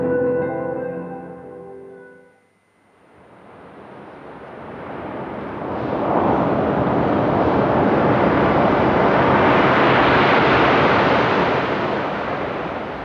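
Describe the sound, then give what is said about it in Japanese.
Waves wash onto Isohama Beach in Yamamoto Town, a former swimming beach whose sand was largely swept away by the tsunami, in a steady, full roar that swells louder and holds, following a brief sustained musical tone at the start. “今年に入ってずっとお送りしてきましたシリーズ10年後の渚ですが、今日が最終回ということになります。山本町の磯浜海岸です。”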